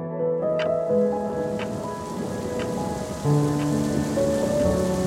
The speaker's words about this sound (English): Just as he had suspected, it had poured. There was thunder, lightning.